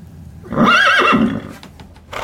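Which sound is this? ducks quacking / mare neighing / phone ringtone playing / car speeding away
mare neighing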